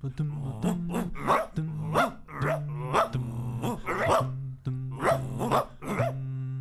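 A dog barks repeatedly in short, sharp, loud bursts, with a few low growling tones between barks in a quick, uneven rhythm.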